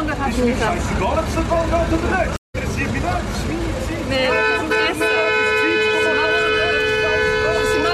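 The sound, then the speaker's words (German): Busy street traffic on the Lorraine bridge in Bern, Switzerland, with a crowd murmuring, then several car horns blare in long, sustained honks layered over each other as angry drivers react to a street blocked by protesters, loud, continuing to the end. “Es hat immer noch ein paar Autos, aber deutlich weniger, weil eine Strasse von Demonstrantinnen gesperrt ist und entsprechend Autofahrer hassig reagiert, wie man da hört.”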